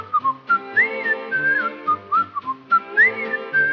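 Someone whistles a bouncy little melody, with short notes and sliding upward swoops, the phrase repeating near the end. No talking, just the whistled tune on its own.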